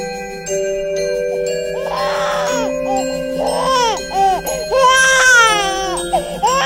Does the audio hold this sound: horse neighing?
no